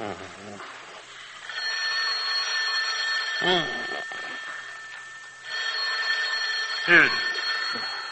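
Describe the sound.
An old-fashioned telephone bell rings in two long, steady bursts, separated by a short pause, with brief bits of voice in between and afterward.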